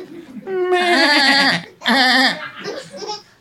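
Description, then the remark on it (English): A person imitates a newborn lamb bleating: two loud, quavering, high-pitched bleats followed by a shorter, softer one, with a wobbling, nasal tone. “there's usually a short lamb interlude. Where we do animal noises.”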